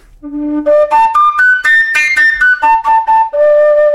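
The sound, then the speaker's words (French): A breathy recorder-type fipple whistle made from a straight, undrilled length of pipe with a plug at the end, played only by breath pressure, blown harder or softer: its pitch jumps up through bright overblown notes, then steps back down, each tone held briefly with audible air noise. “c'est juste un bout de tuyau droit, non percé, avec au bout un bouchon et donc un sifflet type flûte à bec”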